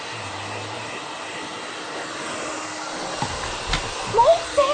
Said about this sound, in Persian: خاموشش کن، به دیوونه. من بیرونم، نمیگم بقیه صدای سشوار از کجا میاد.